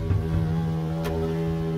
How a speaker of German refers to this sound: Also die bewegen ihre Flügel mit sehr hoher Frequenz und dadurch entsteht so ein summendes Geräusch. Auch Hummeln, Wespen und Hornissen brummen, summen. Hummel? Wespe, Hornisse.